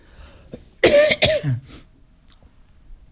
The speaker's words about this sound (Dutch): Nou, kuchel en hoest hier, hoor.